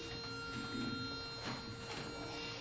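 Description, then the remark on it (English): Several choir members hum sustained, clashing pitches at once, off-key, a steady, slightly sour drone without clear harmony that holds at moderate volume throughout. “Lots of humming that's not in the same key as this.”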